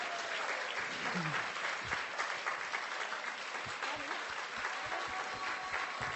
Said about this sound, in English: I would like all of you who are in Holland to stand up, please. Now. A zbytek jim zatleská. And the rest applaud.